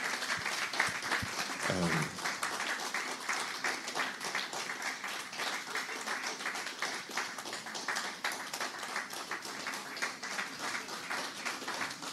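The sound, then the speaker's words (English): An audience breaks into sustained applause for sisters, moms and wives, dense overlapping claps filling the whole stretch at a steady loud level, with a brief rising voice-like whoop near the start. “Okay, so if you're a man here, you are a husband or a male gender, can we clap for our sisters, our moms, our wives, please?”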